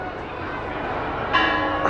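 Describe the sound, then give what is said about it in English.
A large bell rings out as people climb up on it and hit it, over a loud, continuous crowd roar; its clanging tone grows stronger near the end amid the noisy, chaotic din of many people. “People climbing up on the bell.”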